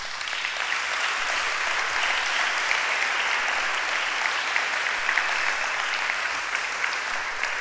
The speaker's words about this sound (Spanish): Un aplauso al Señor.